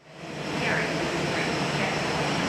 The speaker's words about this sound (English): The sound of jet engines at a Hawaii airport wouldn't normally be cause for celebration, but All Nippon Airways Flight 186 was the first Japanese passenger plane to arrive in Hawaii since international travel shut down due to the COVID-19 pandemic.